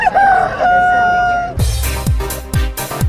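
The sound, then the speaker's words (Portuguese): A rooster crows loudly, one drawn-out call that holds steady before cutting off, followed by a run of punchy, thumping music hits. “Dentro do Você Online, fala foca e canta galo.”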